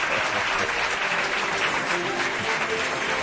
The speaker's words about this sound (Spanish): ¿Quieren ustedes aplaudir para que se sepa que hay gente aquí? Pues no van a creer que no.